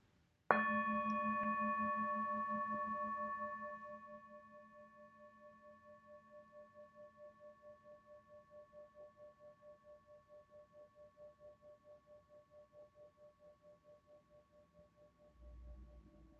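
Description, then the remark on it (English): A single mindfulness bell is struck once and rings out alone, its clear layered tone fading slowly over many seconds with a gentle pulsing waver, followed by a soft low thump at the end. “Following the sound of the bell, my breath brings me back to the safe island of mindfulness.”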